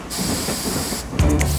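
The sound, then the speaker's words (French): A steam train pulls away from a station platform after the departure whistle: a loud, steady hiss of released steam, then a lower, heavier rumble with faint rhythmic chuffing as it begins to move. No one speaks. “Le train s'ébranle et commence à rouler.”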